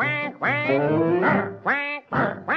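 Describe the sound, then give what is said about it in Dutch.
A voice imitates a duck as part of a children's song, with a series of loud, nasal quacks, about five in a row, one long drawn-out call followed by shorter, evenly spaced ones. “En de eend, kinderen die doet.”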